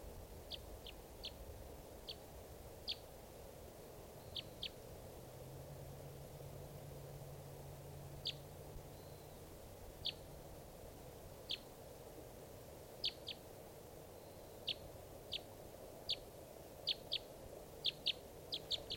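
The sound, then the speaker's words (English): A bird, the one still free from a flock of five being caught, calls again and again with short, sharp, high chirps, some doubled, at an irregular pace over a steady hiss and faint low rumble. No one speaks. “Is that bird?”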